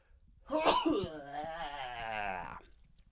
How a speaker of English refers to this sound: Is there a sneeze?